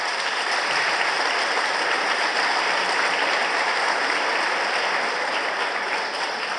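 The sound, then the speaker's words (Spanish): Steady audience applause: a dense, even wash of many hands clapping, sustained at a fairly loud level for several seconds with no voices over it, for families who paid a Mevir housing instalment for 20 years. “Así que por eso, un fuerte aplauso para ustedes por ese compromiso social.”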